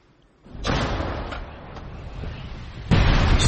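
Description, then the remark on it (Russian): A captured Russian 152 mm howitzer, operated by the Ukrainian armed forces, fires at Russian positions near Bakhmut with a loud, heavy blast followed by a long rolling rumble, then a second booming report hits near the end. No one speaks. “работает на вооруженные силы Украины трофейная российская гаубица”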